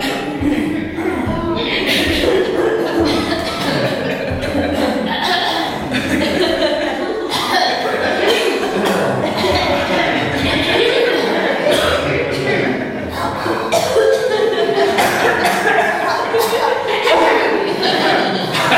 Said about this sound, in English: the kind of laughing, coughing bit